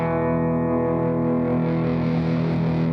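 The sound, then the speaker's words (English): A sustained electric guitar note starts clean and steadily grows grittier and more distorted as the guitar's overdrive control is turned up, swelling into a fuzzy overdriven tone by the end. It is loud, with no talking. “So I have like a clean sound that like smoothly gets more distorted.”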